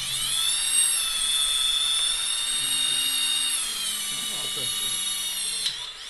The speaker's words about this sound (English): In one small room, two UNITAS volunteers are fiddling with screwdrivers, laptops and various mechanical parts. They're assembling and programming drones to send to Ukraine's front lines.